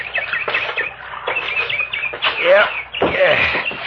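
bird calling

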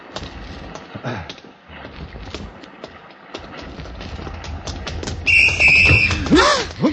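whistle being blown

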